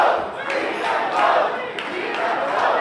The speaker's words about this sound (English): Hundreds of protesters stream between the city's skyscrapers, blocking traffic.